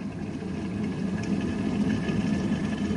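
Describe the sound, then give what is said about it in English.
A kettle heating toward a boil, giving off a steady, even rumble with a soft hiss layered on top. It holds constant throughout, with no voices. “Put them in my cup and I'll set the kettle boiling.”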